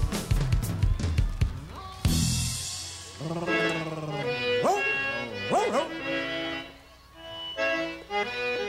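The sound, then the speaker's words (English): A dog barks and yelps in a few loud, pitch-sliding bursts over a busy musical background with voice-like sounds mixed in. “Let's up the call dog here.”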